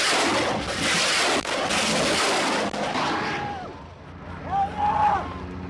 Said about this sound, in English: Suddenly, a Kiowa attack helicopter sweeps low overhead. It fires a rocket toward the Taliban, leaving a rush of air and a trail of smoke.